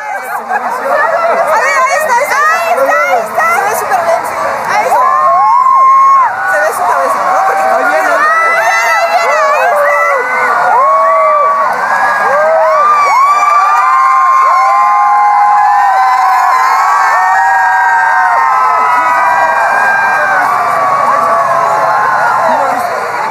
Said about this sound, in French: Soudain, une clameur résonne. Il arrive. Les gens se mettent à crier, surexcités.